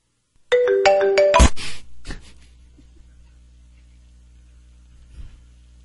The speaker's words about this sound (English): All right, well, a little bit of difficulty there as I was trying to play this off my recording device, and I got a phone call in the middle.